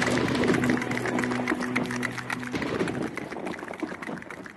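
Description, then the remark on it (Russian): A rapid, thundering stream of hoofbeats, like horses galloping together, pounds steadily over a dense noisy backdrop, with a low sustained tone underneath for the first half. “Закат таинственно багровый и конский топот, будто гром.”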